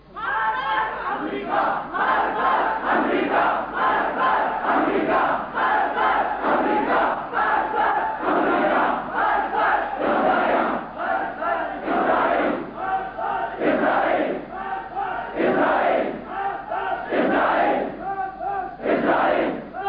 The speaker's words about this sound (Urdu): پاکستان کے نوجوانوں نے، بوڑھوں نے، مسورات نے، علماء نے، سب آپ کی اپیل کو لبے کہتے ہوئے یوم القدس منا کر امریکہ اور اسرائیل اور روس کے خلاف مارک بر امریکہ، مارک بر روسیا، مارک بر اسرائیل نعرے لگائے.